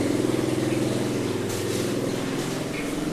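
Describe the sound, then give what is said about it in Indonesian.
A helicopter's steady, loud low drone with a rapid rhythmic beating throughout, a constant mechanical hum with no voices over it. “Ada suara helikopter ya.”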